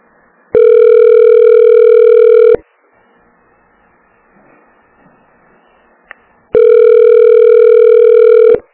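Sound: telephone ringing tone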